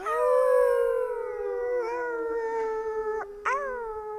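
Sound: wolf howling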